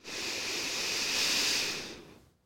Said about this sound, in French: Prends une profonde inspiration pour te redynamiser.